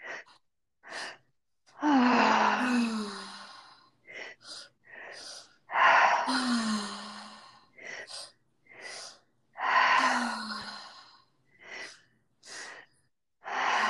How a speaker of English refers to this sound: And let's take about 5 to 6 more breaths here. Using the full force of your breath, big inhale, inhale, exhale, fully letting it out.